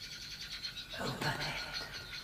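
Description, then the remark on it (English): A bird calls outside, a steady string of high, chirping notes that runs through the whole moment, with a fuller, louder burst of sound partway through. “Didn't you hear? What? That bird.”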